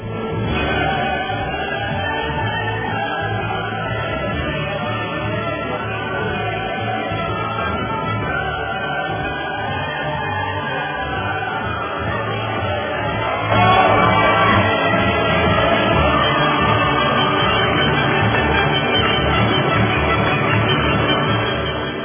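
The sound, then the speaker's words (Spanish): A crowd applauds the newspaper El Faro steadily for over twenty seconds, a dense wash of clapping with no talking, growing noticeably louder about halfway through and staying strong to the end. “Esos aplausos son para el periódico El Faro, con ese su artículo que le está dando la vuelta al mundo por el escándalo.”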